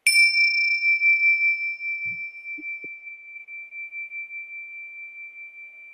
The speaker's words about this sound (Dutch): Laten we even naar de bel luisteren.